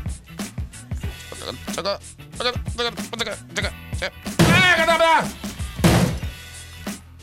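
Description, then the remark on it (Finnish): A sledgehammer repeatedly strikes a Mojave phone, which takes four blows without a scratch; each blow is a sharp, heavy thunk in an uneven rhythm, while excited voices talk and shout loudly between and over the hits. “Ei hitto, Mojave kesti jo 4 iskua lekaa.”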